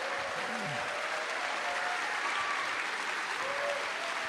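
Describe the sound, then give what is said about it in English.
A large crowd of UW students and other people applauds steadily at an event with Governor Walz: a dense, even wash of clapping that holds at the same loud level throughout, with faint voices and a few whoops rising through the noise. “And there's a whole crowd of UW students and other folks around here.”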